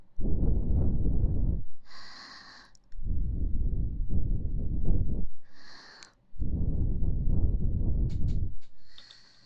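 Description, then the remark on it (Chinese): Breathy, rushing blowing into a listener's ear, sounding like gusts of wind, in three long bursts separated by short pauses, each break filled by faint higher whistling tones, with no talking. “小师弟呀，你听，你耳朵里面好像有风声呢。”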